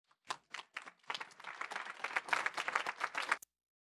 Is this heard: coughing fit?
no